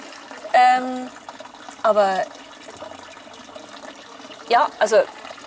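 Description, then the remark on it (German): Steady spring water streams from a tap as people fill their water, in a continuous rushing hiss, with a few short bursts of voices rising over it now and then. “Aber immer noch füllen die Leute hier ihr Wasser ab in langen Schlangen.”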